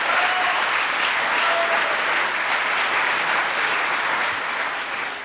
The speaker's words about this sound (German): Die Fragestellerin bekommt viel Applaus für ihre Kritik daran.